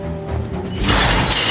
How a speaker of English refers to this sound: Outside the fence top with barbed wire, Mrs. Tweedy slams open the gate, wearing her tall black boots.